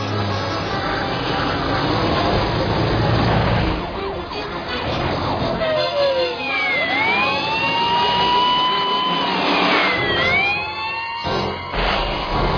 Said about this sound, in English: Can you go a little bit faster? Come on, …. What do you want? This is an ice cream truck.